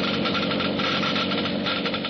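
geiger counter clicking rapidly

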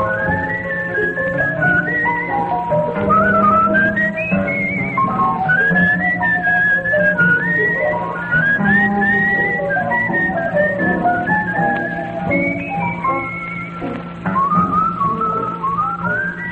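whistling a tune

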